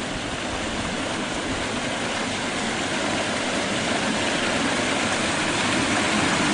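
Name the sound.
roaring creek water flowing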